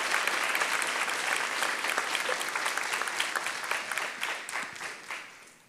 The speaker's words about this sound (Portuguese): Pode aplaudir ao Jesus Cristo, ele merece.